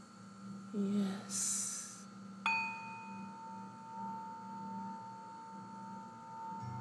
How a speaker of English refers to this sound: The sounds of the singing bowl. As I put it in the palm of my hand, circling back and forth to make that sound for you.